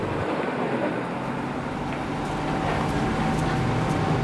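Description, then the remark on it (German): A bus engine rumbles steadily as the bus stops again, a loud, continuous low drone with a faint whine layered on top, holding level throughout with no voices. “Der Bus hält wieder.”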